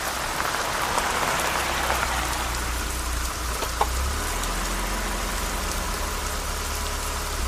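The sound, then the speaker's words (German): Heavy rain pours down at night on a forest clearing by a forgotten cemetery in a steady, dense hiss with no letup, while the low engine rumble of an approaching Chrysler PT Cruiser hums faintly underneath throughout. “Im dichten Regen konnte man sie kaum erkennen”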